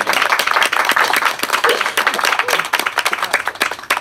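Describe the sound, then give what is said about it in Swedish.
An audience in Stockholm applauds a guest steadily, a dense rush of many hands clapping at a loud, even level for several seconds, with a few sharper individual claps standing out. “Ett stort applåd till Erik.”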